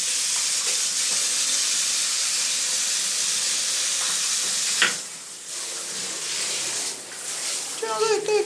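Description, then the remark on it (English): A shower jet runs steadily in a bathroom at Hotel Vanual, a loud, continuous hiss of spraying water that shifts slightly midway, with a voice briefly speaking near the end. “The big thing I'll be interested in is what's the power of the jet of the water? Let's just try.”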